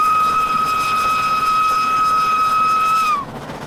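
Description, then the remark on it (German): An approaching train sounds its whistle in one long, steady, loud blast over a hissing rumble, then dips slightly in pitch as it cuts off abruptly near the end. “Je nachdem, ob der sich nähernde Zug einmal, zweimal oder dreimal pfeift,”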